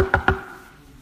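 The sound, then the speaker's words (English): Two quick, firm knocks on a door, evenly spaced, followed by a brief fading resonance and quiet. No voices. “Then a week or two later, I hear this at the door.”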